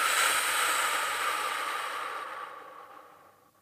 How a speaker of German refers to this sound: Einatmen durch die Nase. Und ausatmen durch den gespitzten Mund.